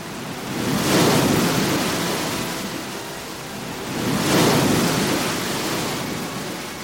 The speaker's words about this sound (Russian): Надвигается шторм! Боги готовят нам еще одно испытание! Медея, укройся от ветра!